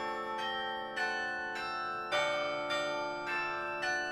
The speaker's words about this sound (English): Change ringing requires a ringer for each individual bell, pulling on a rope and working in tandem with the other ringers. Each bell is assigned a number, and the ringers play mathematical patterns to create the changes.